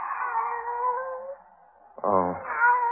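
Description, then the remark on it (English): A pet cat named Kitty meows twice at a door in long, drawn-out, wailing calls, fairly loud. The first stretches over a second and fades, then after a brief pause a second, throatier yowl rises and holds. “Oh, it's you, Kitty.”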